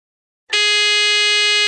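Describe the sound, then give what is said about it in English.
A loud, harsh quiz game buzzer blares after a brief silence, holding one steady, rasping tone with dense harmonics for over a second without any talking. “Remember, it's first 1 to 3. Fingers on buzzers.”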